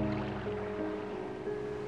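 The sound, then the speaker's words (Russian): A soft, steady wash of distant sea waves, heard from a sandy beach at night under moonlight, rolls continuously at low volume, blended with a faint sustained tonal hum; no voices are heard. “Сюда едва доходят звуки со стороны моря, и ваш слух отдыхает.”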